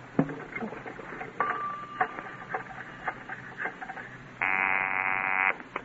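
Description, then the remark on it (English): A telephone being dialed, with a quick run of clicks and short tones, followed by a loud, steady buzzing ring for about a second near the end. No one speaks. “You call my daddy. He doesn't know your voice over the phone.”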